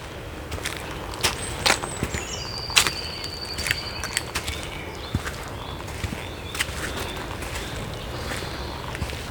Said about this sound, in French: Il y a aussi ces chants d'oiseaux qui semblent marquer leur territoire.